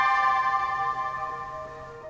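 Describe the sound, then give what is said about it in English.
A steady electronic alert tone from a police officer's license plate reader flagging an SUV as a stolen vehicle, sounding as one sustained, bright chime-like note for about two seconds and fading gradually, with no one talking. “We're listening to what Officer Edwards heard, indicating that the SUV was stolen. Warning, potential hit.”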